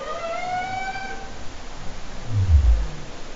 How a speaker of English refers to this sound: And humpback whales, both of these species sing. You know, humpback whales mainly are funny to me. I mean, they make these, since we're being non-scientific, very farty sounds and funny little whoops.